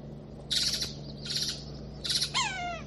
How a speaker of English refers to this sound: This is a varied thrush. This is a varied thrush, gosh. Alarming. No kidding. This varied thrush is worked up for some reason, and I'm not sure why.